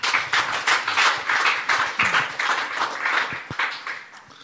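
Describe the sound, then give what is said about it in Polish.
An audience applauds steadily for several seconds, a dense, fairly loud wash of many hands clapping at once with no voices over it. “To jeszcze raz wielkie brawa.”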